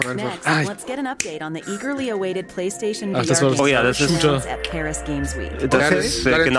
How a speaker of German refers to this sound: Ich möchte nur den Schnipper haben